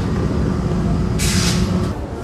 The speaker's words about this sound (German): Es wird jetzt gleich mal laut, weil die U-Bahn einfährt.